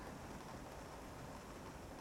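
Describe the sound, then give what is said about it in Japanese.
A soft, steady patter of rain beginning to fall at a mansion late at night, a quiet continuous hiss with no voices and no distinct individual drops standing out. “雨も降り出したようです。”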